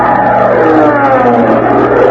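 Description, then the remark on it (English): A loud, steady buzzing drone of a swarm of bees in a room, with layered, wavering tones holding throughout the short stretch and no voices. “That was bee 29.”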